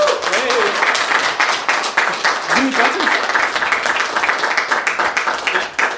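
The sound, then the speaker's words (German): An audience applauds steadily for several seconds, a dense wash of many hands clapping, with a few brief voices calling out underneath. “Macht doch mal ein bisschen Applaus vielleicht.”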